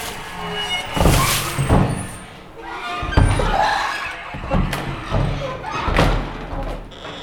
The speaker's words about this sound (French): Les grincements des portes.